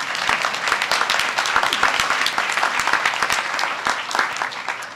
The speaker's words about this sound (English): And I want to begin by giving you guys a shout out for all you have done to work with us. How about a round of applause for our audience?